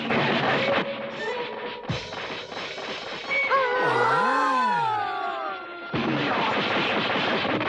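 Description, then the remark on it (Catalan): A loud, dense flurry of punches and blows exchanged in midair between Jackie Chan and an opponent, landing in quick succession, broken midway by swooping, whistling whooshes before the barrage of hits resumes; no one speaks. “A l'aire intercanvien un munt de cops.”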